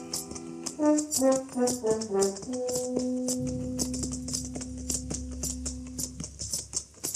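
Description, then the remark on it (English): Horses' hooves clip-clop in a steady, even rhythm as riders come up the almost deserted main street of El Cater at noon, while a short melodic music phrase plays and then settles into a held tone beneath them. “It was noon of the second day when we rode up the almost deserted main street.”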